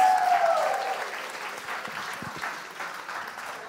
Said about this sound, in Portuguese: Palmas!